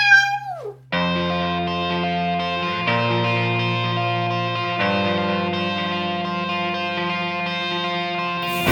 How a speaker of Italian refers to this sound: su Kaiser Karl e la sua stupenda e viziatissima micia birmana